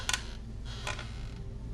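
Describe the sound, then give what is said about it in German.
Wooden floorboards in a house creak quietly, two short dry creaks about a second apart over a low, steady rumble, with no voices. “Das Knarzen von Holzdielen.”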